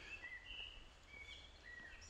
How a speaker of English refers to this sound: Musical. I think that was a blackbird, but I'd need to go checking because I'm not good enough yet.